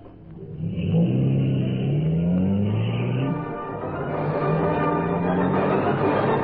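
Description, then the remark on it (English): A parked car's engine, started by Dryden, turns over and catches, then revs loudly and climbs in pitch as the car pulls away, the motor's whine rising and falling through gear changes. “He's walking to that parked car. He's starting.”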